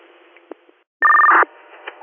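A single loud burst of radio dispatch alert tones for a call on Spruce Street, steady and piercing for about half a second, cutting through a quiet hiss of radio static with a few faint clicks around it.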